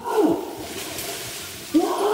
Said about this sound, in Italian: Sentiamo la scimmia.